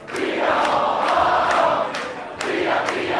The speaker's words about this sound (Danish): Det er 4 år, de råber, og der er kæmpe fest herinde. Jeg ved ikke, om det er det her sted, der egentlig er allermest fest af alle.